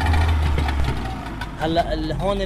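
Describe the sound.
A small fishing boat engine idles with a steady low rumble throughout at the harbour in Dalje, Beirut, while a man's voice talks over the second half.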